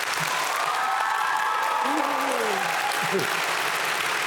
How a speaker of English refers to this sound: Well, I think that cheer was actually bigger than the cheer you all gave here, so that's pretty impressive, really.